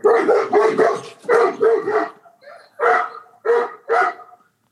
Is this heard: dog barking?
yes